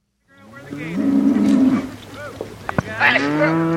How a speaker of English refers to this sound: The black market farm in southern Wyoming doesn't do things by the book. For instance, this cattle drive. The ranch moves its animals from one high country pasture to another every couple of days. We're on the high plateau, the high range here.